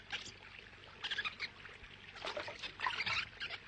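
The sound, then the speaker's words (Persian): Water sloshes and splashes around a boat as it sets off, first coming to the shore and then heading out to sea, in uneven surges that swell and fade, fairly steady, with no voices. “خب حاضر باش، کشتی الان حرکت میکنه. کشتی اول میاد به ساحل و بعد میره توی دریا.”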